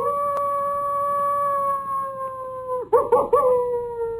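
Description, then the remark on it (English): A coyote howls in a long, steady, wavering tone, then breaks into a short burst of excited yips near the end, heard alone at moderate volume with no talking. “take us out with a little bit of coyote sound, won't you?”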